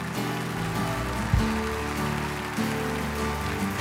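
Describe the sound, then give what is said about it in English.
A church audience applauds to praise God in a dense, steady wash of clapping that runs throughout, with sustained low musical chords, like an organ or keyboard, swelling underneath. “And everybody who's happy for the gospel of Jesus Christ, come on, give God your best praise.”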